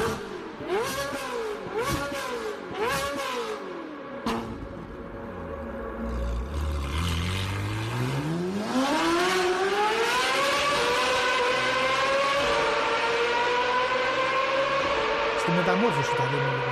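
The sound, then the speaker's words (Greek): A car exhaust, recorded by a mobile phone taped to the back of the car, loud: three quick revving blips, then the engine note sinks low before climbing in one long, steady rising pull as the car accelerates. “Όχι ρε φίλε, το δείξα σου λέω, είναι η εξάτμιση, είχα βάλει πίσω και το κινητό, το είχα δέσει με μια ταινία για να πιάνει τον ήχο και είχα πατήσει το ρεκ.”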